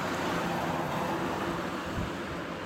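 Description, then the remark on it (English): Steady, moderately loud rumble of street traffic outside in the Azores, a continuous wash of engine and tyre noise with no single car standing out and no voices. “Yes, of course, the Azores are very natural, but of course we have also cars going around the street.”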